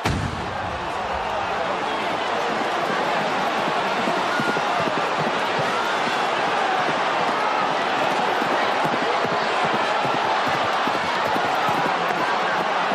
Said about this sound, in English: This is a savage contest for both horse and rider, and few of these riders will complete the course. Indeed, unlike any other horse race, it's the first horse past the post that wins, with or without a rider on its back.